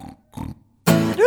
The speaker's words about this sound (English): Somebody's snoring next door.